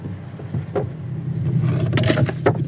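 The engine of a long, narrow motorboat on the Rio Indio drones steadily at a low pitch, growing slightly louder as it pulls away from the shore, with bursts of splashing or rushing noise over the hum.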